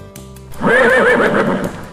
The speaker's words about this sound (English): Nay, nay. I am a horse. I am.